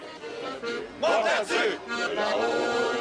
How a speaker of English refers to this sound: This crowd sings nostalgic songs as the 79th Vendange Festival winds to a close.